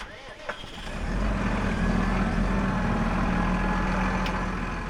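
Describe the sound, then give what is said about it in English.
A big tractor engine, started up for sowing, cranks briefly, then catches and settles into a loud, steady diesel idle with a deep, rumbling drone that continues to the end. “We'll get Billy to fire up the tractor again. It's a big machine.”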